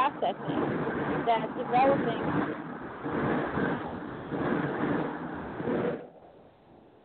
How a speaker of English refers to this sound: Well, I'm near a train station, and trains go by and make that noise. Have you heard that noise? That was a train going by.